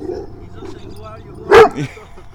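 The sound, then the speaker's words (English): A single sharp dog bark rings out, followed by a softer yip, over a quiet outdoor background with faint murmuring; a happy dog enjoying a day out in a park. “Alright, so we have Happy Dog enjoying a day out in the park.”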